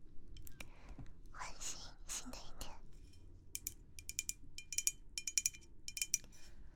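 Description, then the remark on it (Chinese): Soft whispering opens, then a glass bottle of Bacardi passion fruit sparkling water is handled, giving a quick, irregular run of bright, ringing clinks and taps over a few seconds. “宝宝是不是好奇这个玻璃瓶子是什么？是来自百家得的百香果气泡水。”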